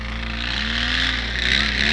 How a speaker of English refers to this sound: You might be able to hear the exhaust note of that motor now.